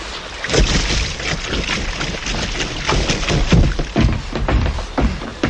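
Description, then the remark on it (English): A motor launch sets off from a junk, churning through water, its engine a steady rumble under loud, continuous splashing and hissing spray, with no one speaking. “They're getting a launch off from the junk!”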